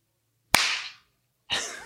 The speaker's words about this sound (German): Ja, da muss ich jetzt einklatschen, weil sonst sind wir nicht mehr sicher. Synchron.